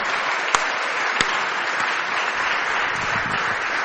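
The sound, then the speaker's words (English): Steady, dense audience applause welcoming Rain Wilson to the stage, a crowd clapping continuously at an even level with a couple of sharper individual claps standing out near the start. “Keep that clap going.”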